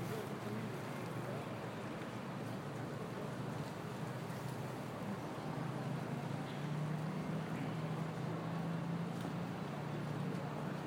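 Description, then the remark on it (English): A steady, unbroken rushing wash of river water by a busy path in central London fills the whole stretch at an even level, with a low droning hum, like a passing boat engine, emerging faintly in the second half. “Get a bit of river sound.”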